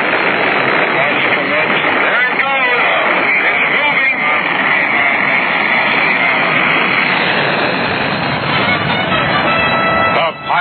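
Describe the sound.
Rocket engines roar at the launch of Apollo 10, bound for the moon: a loud, dense, unbroken rumble that fills the whole clip with crackling intensity, while a muffled voice is faintly buried beneath the noise.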